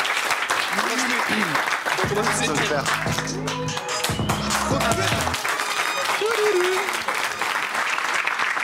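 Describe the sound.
A crowd applauds loudly and steadily for several seconds, dense clapping filling the room, with voices calling out and speaking over the applause.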